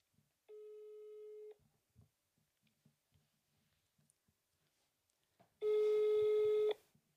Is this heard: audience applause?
no